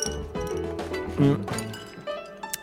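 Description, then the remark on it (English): Someone drinks cool apple juice from a glass on a hot day, at the start of the Fuzzling Show on Radio Campus 92.1 FM, with a brief bright clink of glass partway through over a busy, humming tonal background. “Il est important de s'hydrater. Je bois.”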